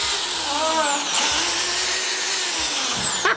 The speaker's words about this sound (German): Und ich wurde von allen gerade doof angeguckt, dass ich meine Bohrmaschine von zu Hause mitgebracht habe.